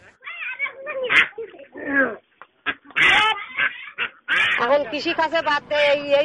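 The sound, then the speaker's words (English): A flock of farm-reared ducks quacking on waterlogged former farmland, their nasal calls overlapping in busy, irregular bursts with only brief pauses, growing denser and more continuous toward the end. “We started rearing ducks because we don't have any land to cultivate on high ground.”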